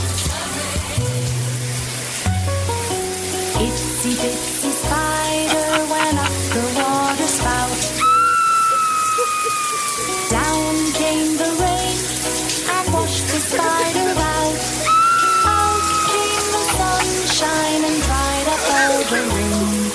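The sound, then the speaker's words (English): A shower runs in a home bathroom during a nightly shower, with a steady, unbroken hiss of spraying water for the whole stretch, while music with a thumping bass line and bright melodic notes plays loudly over it. “was doing her nightly shower duties.”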